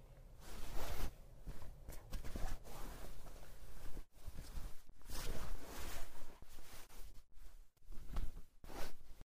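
Rustling and swishing of fabric as someone changes into a school uniform, with a zipper sliding and brief soft shuffles, continuous for several seconds with short pauses and no talking.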